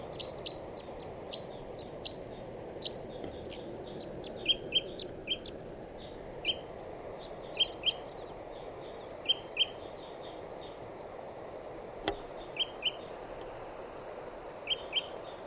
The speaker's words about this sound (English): And the bird came in and swooped around. And that's here in a dead tree. Stop. This is the wild bird.